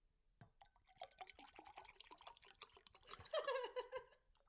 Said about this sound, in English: Would you believe I've poured the water now for the first time? Could you tell the difference? A more feminine pour.